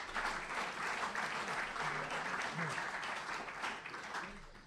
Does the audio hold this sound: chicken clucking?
no